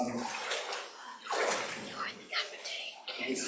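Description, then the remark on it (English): Water sloshes and swishes in a series of irregular surges as a person wades into the water step by step, with a faint voice murmuring underneath. “If you'd like to come into the water, please, and you face that way and stand.”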